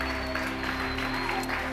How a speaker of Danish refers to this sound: Og vi bliver selvfølgelig nødt til lige at give en klapsalve til alle de nominerede.